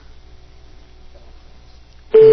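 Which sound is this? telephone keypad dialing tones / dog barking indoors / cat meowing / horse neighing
telephone keypad dialing tones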